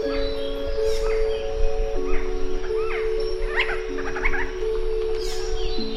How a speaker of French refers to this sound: une chronique sur le monde sonore animal, aujourd'hui, le Quetzal.